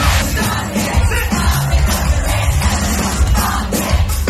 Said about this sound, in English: I mean, it sounds like she's at a gig, screaming her lungs out, having a fantastic time.